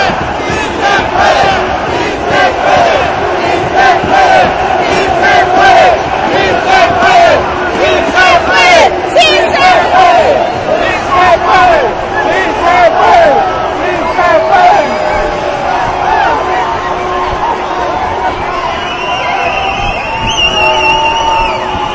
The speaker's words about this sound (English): Marching down a canyon in these buildings that have 30 stories. And the echoes of the screams are bouncing off the walls. And there's people up in the windows staring down at the street in groups. No one's working today. Now they're chanting USA.